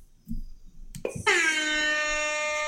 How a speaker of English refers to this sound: Thank you. That's the air horn of dad wrongness.